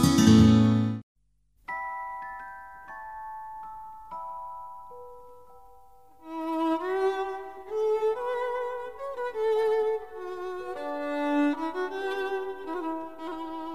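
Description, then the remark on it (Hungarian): A short burst gives way to a few struck bell tones that ring out and slowly fade, followed by a fuller, sustained peal of overlapping church bells, loud, with no talking. “Harangszó Rádió. Közösségre hív.”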